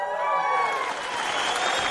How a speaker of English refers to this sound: There it is. That was actually your cheering. It just sounded like a cheer track.